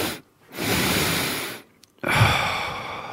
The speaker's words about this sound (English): No, so would you like the sniff again? Would you like the sniff again? Yeah, yeah.